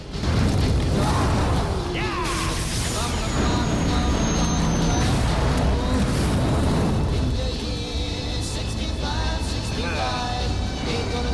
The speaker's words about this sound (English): In a tunnel, Bronco and Vanai ride on battle stags. Kanaya lies on the back of one. They speed out of the tunnel as it explodes.